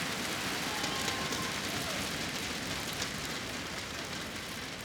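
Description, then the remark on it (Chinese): A crowd applauds for two people shaking hands, in a dense, steady wash of clapping that holds at an even loudness for the whole five seconds, with no voices rising above it. “多谢，俾掌声我哋两位握手。”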